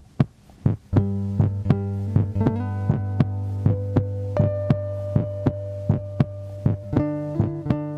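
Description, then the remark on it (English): A recorded heartbeat thumps steadily and quickly, about two beats a second, over sustained low humming tones that shift pitch occasionally. No one speaks. “So then I listened to the next song, which was the heartbeat song.”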